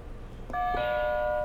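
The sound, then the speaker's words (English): A game buzzer, hit during a word game, rings out as a bright two-note electronic chime, much like a doorbell, the second tone ringing on steadily to the end. It is fairly loud, with no talking. “It sounds like a doorbell, doesn't it?”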